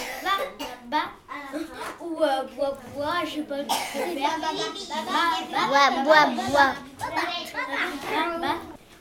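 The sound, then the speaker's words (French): A child's voice imitates the noises of a lapin crétin, a cartoon rabbit that cannot talk: a continuous run of high, bouncy warbles and squeaky vocal sounds with rapid pitch swoops, fairly loud and without ordinary words. “C'est un lapin qui sait pas parler. Il fait des bruits, mais qu'on sait pas faire. Moi, je sais faire.”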